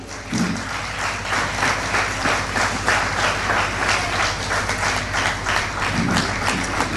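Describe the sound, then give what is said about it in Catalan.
A crowd bursts into steady, dense applause at the 2024 festes majors in Raval de Cristo, many hands clapping at once for several seconds, loud, with a faint low hum underneath. “Un fort aplaudiment.”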